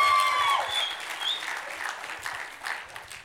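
An audience claps steadily for a few seconds for a person being called up to speak, a dense, even patter of many hands with a couple of short whistles near the start, slowly easing off toward the end.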